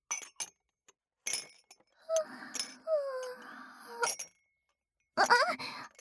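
household object, dishes clinking

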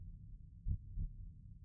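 human body sound, heartbeat

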